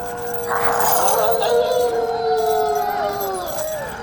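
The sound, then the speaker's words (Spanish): Several wolves howl together in long, overlapping, wavering tones that rise and slowly fall, sustained and fairly loud for the whole stretch with no talking. “¡Estos son los lobos, patrón!”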